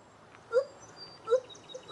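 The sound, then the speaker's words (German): Gibbon apes sing a duet in the jungle: three short, rising, siren-like whooping notes ring out at steady intervals, moderately loud, over a faint background hiss. “Diese Affen singen eindrucksvoll im Duett.”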